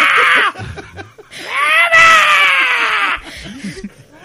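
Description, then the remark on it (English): A woman shrieks the cat's name, Fuma, in two piercing, drawn-out calls at night: a short one, then a longer, rising-and-falling shriek. Brief chatter and breathy noises fill the gaps between them. “shrieking it in the night”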